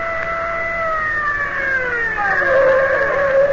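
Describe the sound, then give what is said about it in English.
A patrol siren wails with slowly falling, harmonic tones right behind a car whose engine rumbles low underneath. The car slows to a stop as the siren's pitch drops and its sound grows slightly louder. “I'll stop the car. We'll find out from the direction patrol. They're right behind us.”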